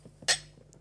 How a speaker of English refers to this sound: So, wine? Yeah, go on then. Cheers and look into each other's eyes. Yeah, let's do it.